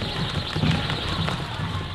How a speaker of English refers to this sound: You can hear the ropes whistling in the air. These ropes are made of cable wire you don't want to be hit with.